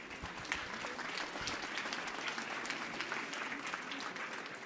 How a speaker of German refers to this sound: Sie dürfen jetzt gerne klatschen an dieser Stelle.